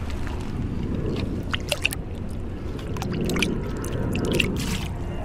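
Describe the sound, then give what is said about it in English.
A dipper ladle holding about 300 ml scoops through shallow marsh pool water to sample for mosquito larvae, with continuous sloshing and gurgling and a few sharper splashes and drips over several seconds; no one speaks. “But let's just take a bit of a dip here and see if we can find any mosquito larvae.”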